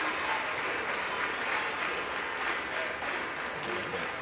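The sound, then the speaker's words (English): Sustained applause in the House chamber as members of the House of Representatives, most Democrats and Republicans on their feet, applaud the new Speaker of the House, Mike Johnson of Louisiana. It is a steady, dense wash of clapping hands with no pauses and no voices rising above it. “It appears most Democrats and Republicans are on their feet, giving the new Speaker a round of applause.”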